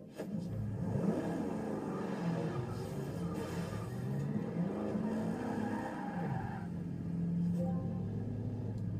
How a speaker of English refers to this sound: hang on a second, let me just put this car where it's supposed to be so when I come back.